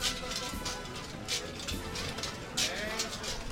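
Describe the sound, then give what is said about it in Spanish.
The heavy drapes (caídas) of the palio float of the Virgen del Dulce Nombre sway as the procession arrives at San Lorenzo at night, giving soft rhythmic swishes with a faint jingle on each swing, roughly every half to one second, over a steady murmur of voices. “ya lo escuchas, la radio son sonidos y este es el más bello que van a escuchar probablemente esta noche y en los próximos días, porque este es el sonido de las caídas del paso de palio de la Virgen del Dulce Nombre”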